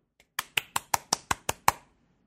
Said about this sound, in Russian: Я просто мышкой кликаю, чтобы не слышно это было.